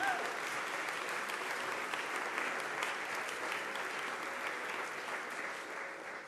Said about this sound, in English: So let's give these guys a round of applause, first of all.